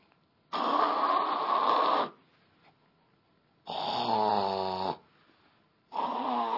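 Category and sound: vocal imitation, voice imitating snoring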